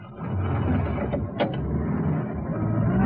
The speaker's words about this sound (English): The two police officers sprint to their patrol car. The sergeant guns the engine into life, and the warrant officer takes the microphone off the radio.